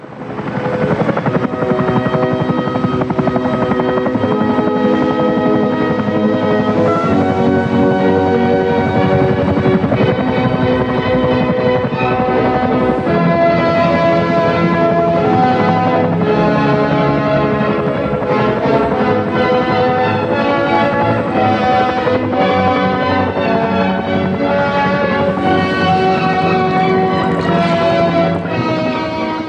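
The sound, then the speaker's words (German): A helicopter flies with loud, continuous rotor and engine noise that stays steady and dense throughout, with no voices, in a Lars von Trier film scene where a young doctor is carried on a rope beneath the helicopter. “Während der Arzt von einem Seil unter einem Helikopter in die Welt hinausgetragen wird und mit ihm die tödliche Krankheit, ist eben Wagners Tannhäuser zu hören.”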